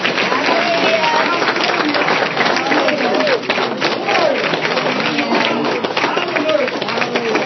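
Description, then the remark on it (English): An audience stands and claps hands in praise to Jesus at an evening church service, a dense, steady roar of applause lasting the whole stretch, mixed with many voices shouting and cheering over it. “Give Jesus a hand clap of praise on your chin.”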